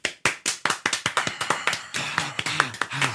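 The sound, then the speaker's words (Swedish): A small group claps, starting as a quick, steady run of sharp hand claps, then thickening into denser, overlapping applause, with a voice briefly calling out near the end. “Så där, applåder för den.”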